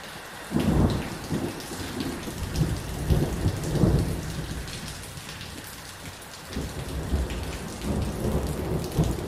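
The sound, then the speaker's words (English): Heavy rain drums steadily on the corrugated iron roof of a small house in a township east of Johannesburg, South Africa, during a thunderstorm. It makes a dense hiss while deep thunder rumbles roll in repeatedly underneath. No voices. “Rain hammers the corrugated iron roof of a small house in a bleak township.”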